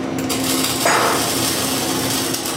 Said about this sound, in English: Within a few minutes, the shop is buzzing as each student measures, cuts, hammers, and grinds small plates of metal to prepare for a basic weld.